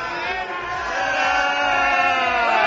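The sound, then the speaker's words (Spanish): A crowd of citizens in the street boos and jeers loudly and continuously at the four lawyers of Infanta Cristina as they leave the courthouse, many overlapping voices forming a dense, sustained wall of disapproving shouts with rising and falling pitch. “En la calle, los ciudadanos los despedían con abucheos.”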